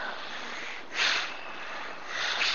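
Forceful bhastrika (bellows) breathing through the nose, with two strong, hissing breath bursts rising out of a steady airy rush, no talking.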